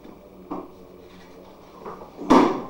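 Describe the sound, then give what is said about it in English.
A small toy door that won't stay shut is closed with a light knock, then another soft clack, followed by a sharper, louder bang; a quiet hum sits underneath. “if you close this one, don't bang the other door because then this one will open.”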